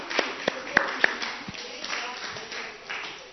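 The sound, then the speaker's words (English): A few scattered, sharp hand claps ring out at uneven intervals, sparse rather than full applause, over a low murmur of background noise. “Thank you very much. Clap.”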